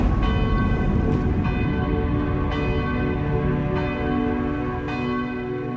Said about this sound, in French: Le 5 décembre 1956, fin de matinée, les cloches du Ruf sonnent, le temps s'arrête de nouveau. Il y a 36 heures, elles annonçaient un malheur. Aujourd'hui, elles rappellent les paroissiens en Sainte-Église.